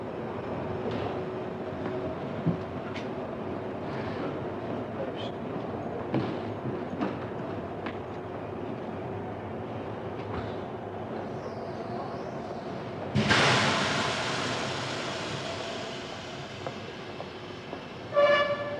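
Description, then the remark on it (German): Busy ambience at the railway station in Salzburg with a steady low rumble and scattered clanks, then at about thirteen seconds a train surges past in a loud, bright rush that fades, ending with a brief squeal. “Und so ein trister Bahnhof.”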